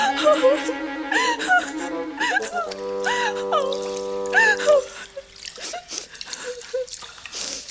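A girl, a king's daughter, cries and wails loudly, with sobbing, quavering moans and sharp gasping breaths, the sobs fading into softer whimpers near the end. She is weeping over her golden ball, which fell into a well.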